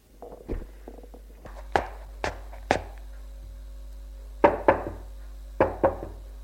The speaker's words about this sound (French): Elle a frappé à la porte de sa chambre.